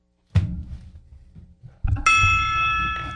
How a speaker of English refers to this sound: Ben Fred would strike, he just knocked the thing over. He doesn't know how to do it. It takes a certain touch to do it. Sure it does. But Ben Fredrickson was using this gong, wasn't it?